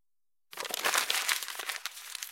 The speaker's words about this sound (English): Paper.